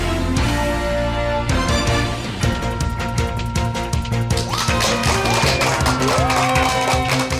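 crowd, audience applause and cheering

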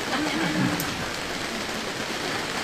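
nature, heavy rain falling

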